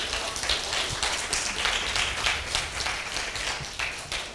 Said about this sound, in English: And can we just praise God for that? Can we give God a big round of applause?